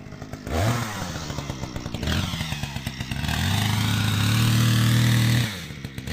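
A chainsaw revs and bogs down as it cuts through dense peat sediment, its engine pitch rising and falling in long bursts, loud, with a brief idle between cuts.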